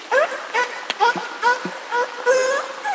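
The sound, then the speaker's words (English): A killer whale named Luna gives a series of short, harsh, bark-like calls, about seven in steady succession, imitating a sea lion's barking, with no talking. “which you probably noticed from that is that Luna's vocalization sounded very much like a sea lion's bark.”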